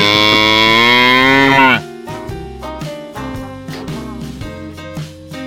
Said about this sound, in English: Let's get another moo in here. We need a moo.